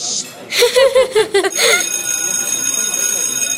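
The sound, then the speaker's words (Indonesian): Brief chatter and a chuckle give way to a school bell ringing steadily, a continuous bright metallic tone that carries on clearly to the end. “Ya, baru aja duduk, dah bel.”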